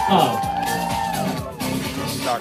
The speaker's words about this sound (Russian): А мы все аплодируем, ребята. Все, давайте.